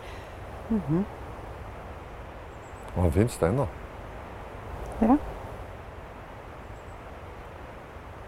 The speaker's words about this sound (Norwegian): Du hører fossen godt her.